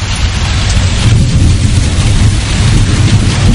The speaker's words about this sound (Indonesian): Hujan pun semakin membesar dan suara petir mulai terdengar lumayan keras.